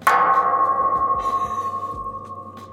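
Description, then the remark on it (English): A golf ball strikes the metal border fence at Eagle Pass with a single sharp clang, leaving a bright, bell-like ring that hums on steadily and fades only slowly over a few seconds. “That's what it sounds like when a golf ball hits the border fence.”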